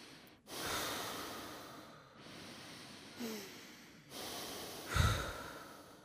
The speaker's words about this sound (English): Okay, I want you to close your eyes, focus on your breathing.